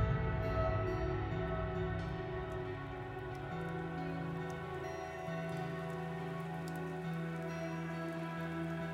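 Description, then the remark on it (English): Steady rain falls continuously on an overcast evening, a dense, even patter of drops striking a surface, moderately loud with no voices, accompanied by a low, sustained tonal hum underneath. “It was overcast, rainy.”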